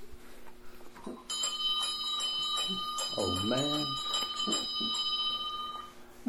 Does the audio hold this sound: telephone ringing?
no